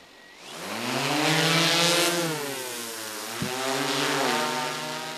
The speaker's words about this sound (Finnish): Tässä nostetaan ilmaan poliisin droonia, jota käytetään ensimmäistä kertaa avuksi karhunmetsästyksen valvonnassa.